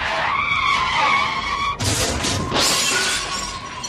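A race car's tires skid with a loud, sustained screech for nearly two seconds, then give way to an abrupt, noisy crunch and shattering burst, with no voices.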